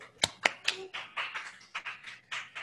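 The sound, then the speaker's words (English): Sparse, quiet applause: a few people clapping in a loose, uneven patter of sharp slaps, with no voices, applauding the people doing service for OA. “Will all people doing service for OA at any level please stand and applause service?”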